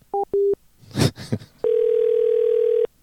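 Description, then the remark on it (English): A few short electronic beeps and a burst of noisy crackle, then a steady, loud, unbroken telephone dial tone hums for over a second after a call disconnects. “We got disconnected somehow. I guess my cell phone went out of range.”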